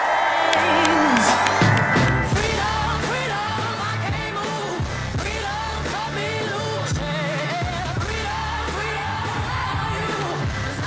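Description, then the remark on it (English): A large crowd at a Kamala Harris campaign rally, at a former country music festival grounds just north of Eau Claire, cheers and whoops loudly and continuously after her speech, a dense roar of many voices filling the open air without pause for the whole stretch. “Vice President Kamala Harris speaking to a rather large crowd in just north of Eau Claire at the site of a former country music festival grounds.”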